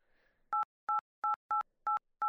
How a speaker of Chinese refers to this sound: 先生您好，请您用键盘按置会员卡号。